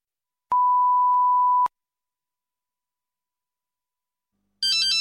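A single steady electronic beep sounds first, followed by a few seconds of silence, then a brief, loud burst of a telephone ringing cuts in right at the end.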